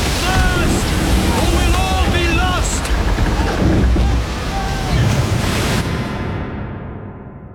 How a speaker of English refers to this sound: Oars shatter, the prow twists round, and a mountain of water towers, massive, steep.